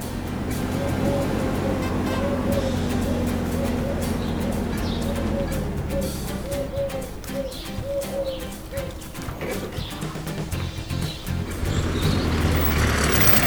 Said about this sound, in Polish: O, i nadjeżdża ciężarówka! Hej, ciężarówko!